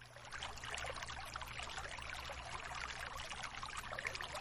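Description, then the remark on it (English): Water flows steadily and continuously, a bright splashing trickle like a small stream or pouring water, with a low constant hum underneath and no voices. “Listen to the sound of the water as it flows through your lower body and sweeps away any tension or difficulty on any level.”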